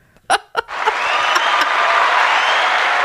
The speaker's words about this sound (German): Applaus, Applaus, People.